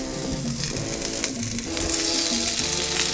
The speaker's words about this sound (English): That cast iron skillet is exactly where you want to be. So I'm going to... Oh, yeah. You hear that sizzle?